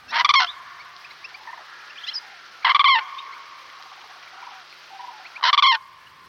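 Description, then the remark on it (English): Three loud, trumpeting common crane calls ring out at regular intervals, each a short rattling bugle, with quieter bird chatter and a faint steady background between them. “A bird celebrated in dance, from the crane dancers of Japan to the plate-smashing dancers of Greece.”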